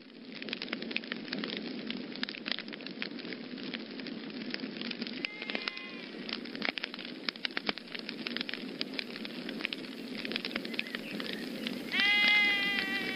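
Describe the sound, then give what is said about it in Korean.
A campfire crackles steadily at night as more fire is built up, dense snaps and pops over a low roar, with a couple of brief sheep bleats rising in the background. “제가 모닥불을 더 피울게요.”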